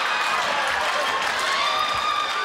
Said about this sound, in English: He turned in 6 minutes of pure brilliance, leaving to raucous applause and never really looked back from there.